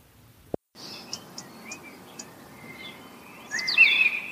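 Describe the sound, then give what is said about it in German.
Birds chirp and sing outdoors in the morning, with short repeated high notes early on, then a brighter, louder burst of warbling near the end, over a soft steady background hush. “Kennt ihr das, wenn ihr morgens aufwacht und euch die Vögel wecken?”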